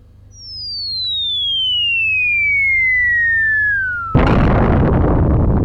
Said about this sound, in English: Well, this one here is a bomb going off.